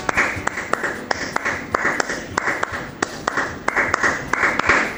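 Applause with a slight echo: many hands clapping at once, marked by sharp, loud claps standing out at an uneven rhythm over a steady wash of clapping for the whole stretch.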